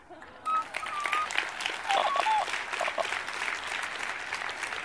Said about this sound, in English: Y'all, I hope you're not clapping for me, because it took me like minutes to get my act together to even do that. And I was probably supposed to do more, but I do hope you're clapping for God.